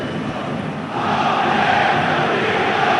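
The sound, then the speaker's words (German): A dense stadium crowd of Arminia football fans roars steadily during a match, then swells louder after the first second as they chant "auf geht's Arminia" together in a sustained, massed wall of voices. No single speaker stands out. “Ja, auf geht's Arminia, ihr hört es.”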